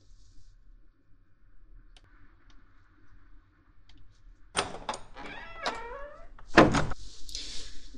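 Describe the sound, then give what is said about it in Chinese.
After a quiet stretch, a door is closed: a few clattering handle and latch sounds, then a solid thump as it shuts, followed by a brief airy hiss. “我去关门。”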